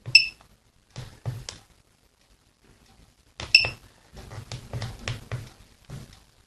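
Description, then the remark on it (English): Snake, one of the first widely available mobile phone games from the 1990s, playing on a Nokia phone: short, buzzy electronic beeps and clicks in quick irregular bursts, two clusters separated by a brief silence, with high bright tones at the starts. “Yeah, it's Snake on a Nokia phone.”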